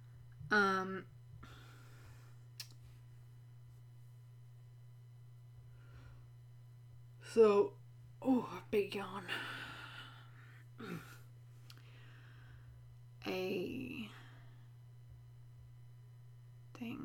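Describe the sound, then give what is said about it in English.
Several short, harsh coughs from a woman come in scattered bursts, including a quick cluster of three or four, over a steady low electrical hum. “I don't know if you were able to hear, but my girlfriend just coughed a lot in the background.”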